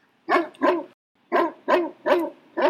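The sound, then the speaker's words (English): A dog barks hard and insistently at night aboard a boat, loud: a quick pair of barks, a short pause, then a run of four more in steady rhythm, with no talking. “In the night, suddenly, Moose started barking really hard and pawing at them.”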